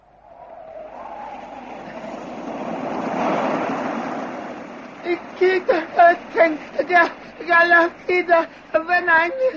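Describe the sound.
Choppy sea waves wash and surge for several seconds, swelling to a broad rushing peak before easing off, then a voice begins talking over the fading water.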